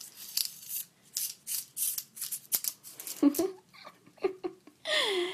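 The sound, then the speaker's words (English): Clothespins on a zip-strip clothesline clack and rattle in a quick series of sharp bursts, followed by a few softer clicks as a voice briefly laughs or murmurs. “My zip strip. My clothesline.”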